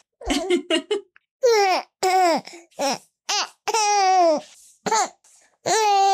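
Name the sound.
baby babbling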